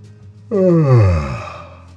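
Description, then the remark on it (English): A person imitates a yawn: one long, drawn-out voiced breath that swells and then slides downward in pitch, fairly loud, with no talking around it. “The little cloud yawned.”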